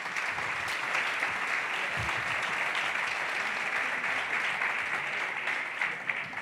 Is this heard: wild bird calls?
no